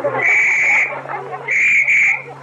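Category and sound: signal or alarm, whistle blown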